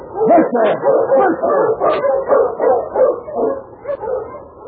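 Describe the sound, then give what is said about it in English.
A pack of sled dogs barks and yips in a steady, overlapping chorus, loud throughout, with excited high yelps mixed into the rhythmic bursts, as snow begins to fall. “We'll take this dog sled up there where ours is waiting.”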